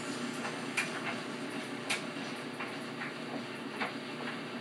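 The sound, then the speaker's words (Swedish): A tumble dryer runs with a steady, dense whirring rumble, punctuated by soft clicks and knocks roughly once a second as the load turns over inside the drum. “Men torktumlare då?”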